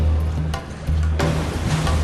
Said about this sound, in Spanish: Y al final me di cuenta de que eran las olas que rompían en algo. Al pensar que estaba cerca de la costa, Ian siguió directamente el sonido de las olas al romper.